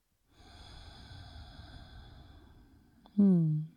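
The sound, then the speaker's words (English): A slow, steady breath drawn in through the nose for a few seconds, with a hand on the heart center, then a louder, brief exhale with a slight voiced sigh, over a faint steady background tone. “So just breathing in and out through the nose, hand to your heart center, feeling into this moment.”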